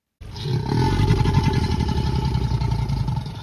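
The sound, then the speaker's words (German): A deep, throaty crocodile growl, one of two animal sounds mixed together for a film T-Rex roar, rumbles continuously for a few seconds, loud, with a rough, vibrating texture and no voices. “Dies waren ein Löwe und ein Krokodil.”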